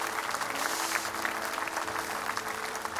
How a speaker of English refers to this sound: If you receive that, give the Lord a clap offering.